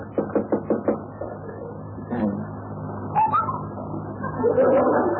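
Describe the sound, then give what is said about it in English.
About five quick, evenly spaced knocks rap on a door, sharp and fairly loud. Then they stop, and muffled, indistinct sounds and a faint voice follow. “Knock on his door.”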